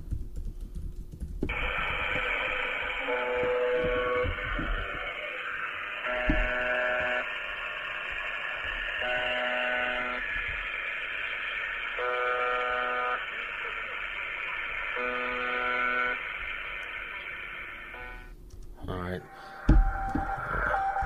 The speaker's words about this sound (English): Let me play you this one real quick. Or, sorry, shortwave radio. Different things.